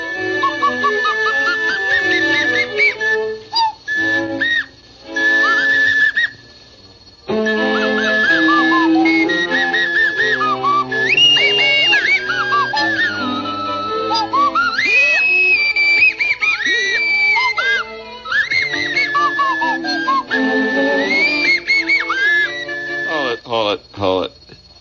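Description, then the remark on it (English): A nose flute plays a reedy, whistling melody with wavering, sliding pitch over busy musical backing, pausing briefly early on before carrying on loudly to the end. “If I sit in with this crowd again with my nose flute,”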